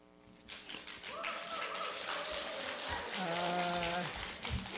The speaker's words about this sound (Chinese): 鼓掌一下。 鼓掌。 谢谢啊。